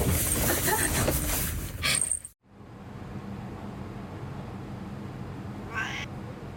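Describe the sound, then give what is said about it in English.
A cat meows loudly over a noisy background, falls silent for a brief moment, then lets out another shorter meow amid steady low hiss. “Life doesn't seem tough enough for this cat just yet.”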